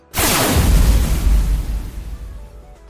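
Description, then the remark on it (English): A heavy booming fire cannon blast in a video game, launched by the evil chocolate cookie from block 4, erupts suddenly with a broad roaring burst of deep rumble and hiss that slowly fades over a couple of seconds. “The evil chocolate cookie launched fire cannon from block 4.”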